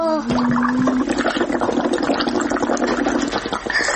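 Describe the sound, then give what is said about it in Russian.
Steady bubbling as someone blows through a straw into a drink, a busy gurgling rush that keeps going for several seconds with no pauses, loud. “Попробуй побулькать.”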